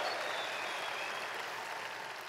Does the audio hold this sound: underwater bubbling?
no